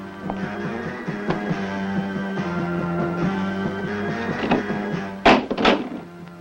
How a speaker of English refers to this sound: Close the door.